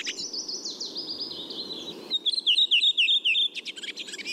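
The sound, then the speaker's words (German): Redwing song, clear: a run of 4 to 5 brisk, repeated descending whistled notes at the start, followed by rapid twittering chatter, over a soft background hiss with no voices. “Bei der Rotdrossel ist es so, die haben so 4, 5 Elemente, so 4, 5, 5 Elemente am Anfang so.”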